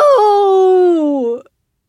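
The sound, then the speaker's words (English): A loud, drawn-out anguished howl from a single voice that barely sounds human, echoing through a hall, holding a steady pitch and then sagging slightly before breaking off abruptly after about a second and a half. “The howl stops me in my tracks. It doesn't even sound human.”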